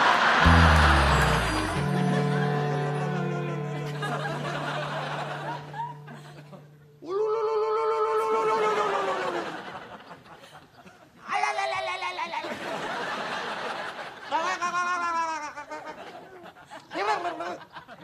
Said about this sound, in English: …, swallow a pigeon? No, Tim, I'm ululating. I didn't know men could do that. No, Tim. Ululating is a Middle Eastern custom expressing joy and sorrow.